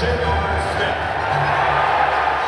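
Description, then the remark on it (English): A large arena crowd at a Warriors home game boos steadily as the Cavs players are introduced pregame, a loud, sustained low roar of many voices that holds without pause. “And so it was last night as the Cavs players were introduced pregame to a chorus of boos from the home crowd.”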